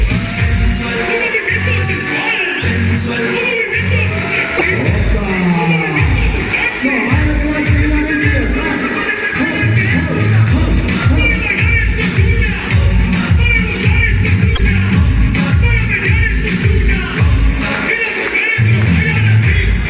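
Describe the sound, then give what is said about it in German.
Loud music with a steady, thumping beat plays while a crowd applauds and cheers throughout, the dense clapping and shouts blending with the music at a constant high level. “Also, Musik ab und ein kräftiger Applaus!”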